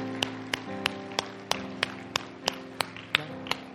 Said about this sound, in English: Man, would you give the Lord a hand clap today for those who are coming to the Lord for the first time?